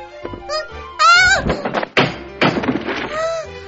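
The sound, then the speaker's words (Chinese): A person falls to the floor with a heavy thump after their chair is pulled away in a classroom, followed by a second solid knock, while high cartoonish vocal cries rise and fall around the impact. “好痛 啊！怎么这样啊？ 是谁挪开我的椅子了？”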